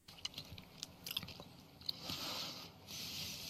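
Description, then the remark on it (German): Wet, noisy chewing with smacking, squishy clicks and slurping saliva sounds as an animal eats, salivating heavily as it puts food in its mouth. Irregular bites run for a few seconds with no talking. “Und wenn er sich was zu essen in den Mund steckt, erst recht. Und das kann man hören.”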